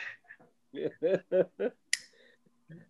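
One sharp, crisp hand clap rings out on its own, brief, just after a few short voiced murmurs.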